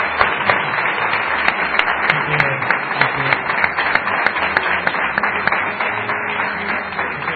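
A crowd claps steadily for several seconds at the close of a program, a dense, even wash of many hands with sharp individual claps poking through, sustained and fairly loud with no one speaking over it.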